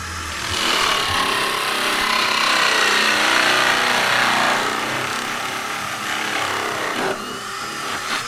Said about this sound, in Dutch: U bent de buizen aan het boren. Vertel, wat is het werk wat u nu aan het doen bent? We zijn het irrigatiesysteem aan het maken. Dat betekent dat we een aantal buizen hebben. Gaan we eerst gaten inboren.